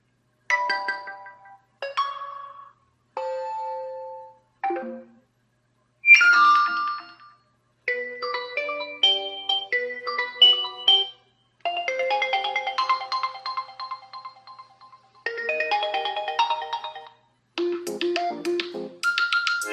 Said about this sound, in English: Or the ringtones of my cell phone.